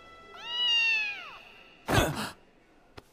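A single drawn-out meow from a cat behind a school building, fairly loud, falling in pitch at the end, followed by a short breathy rustle and a couple of faint clicks.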